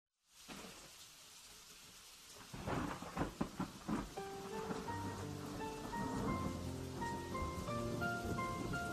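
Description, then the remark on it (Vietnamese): Steady rain hisses throughout, with a few louder rumbling bursts partway in, then a gentle melodic tune rises over the continuing downpour. No one speaks. “Giờ đây nhìn những hạt mưa ngoài kia, lòng lại chạnh buồn, tiếc nuối cho những ngày xưa khờ khạo.”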